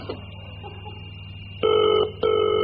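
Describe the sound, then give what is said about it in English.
A telephone line hums quietly before a loud ringing tone sounds in two short bursts, clear, as if heard through the handset while a call to a viewer connects. No one speaks. “Anyway, on with the show, and it's time to a telephone a lucky viewer who's been chosen to come on next week's show.”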